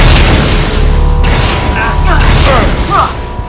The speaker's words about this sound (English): By the quick movement of Magneto's hand, a magnetic force field engages and deflects the blast.